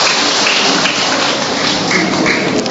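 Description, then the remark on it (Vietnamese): A crowd at a religious gathering applauds steadily to greet a woman, a dense, crackling wash of many hands clapping at once that holds a constant loudness for nearly three seconds, with no voices over it. “Thưa anh chị em, chúng ta cho một tràng pháo tay để chúng ta chào người chị em này.”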